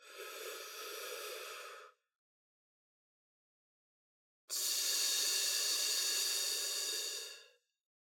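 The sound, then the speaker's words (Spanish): In a breathing exercise, a steady breath is drawn in through the lips for about two seconds, then a short silent pause while the pelvic floor muscles are squeezed, then a longer, louder hissing exhale pushed out through clenched teeth. “Inhalando por los labios, haciendo una breve pausa, apretando los músculos del piso pélvico y expulsando el aire por los dientes.”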